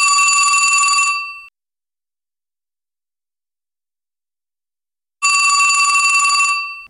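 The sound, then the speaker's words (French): A telephone rings twice, each bright, metallic trill lasting about a second with a long silent pause between. The ringing is loud, with no voices. “La sonnette du téléphone retentit.”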